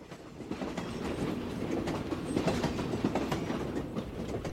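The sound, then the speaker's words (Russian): A train rushes along the tracks with a steady, dense clatter of wheels over rails, loud and continuous, rising slightly in intensity midway, with no voices. “В начале путешествия сердце, казалось, стучало в такт несущемуся вперед поезду.”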